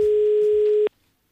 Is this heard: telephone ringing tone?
yes